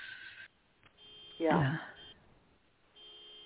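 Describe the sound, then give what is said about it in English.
A car's electronic beeping drifts in from outside through an open window, steady tones sounding in a few bursts in the background, with a short stretch of someone talking in the middle. “I have my window open and someone's car in the background is out inside is beeping.”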